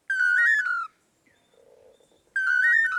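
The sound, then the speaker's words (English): A pair of male long-tailed manakins in Central America sings a clear, whistled 'toledo' phrase, loud, then repeats it after a short pause filled by a faint low murmur. “Researchers have estimated that the dynamic duo may perform their Toledo song up to 5,000 times in one day.”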